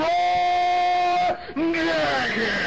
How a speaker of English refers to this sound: Can you hear from the boos of the crowd?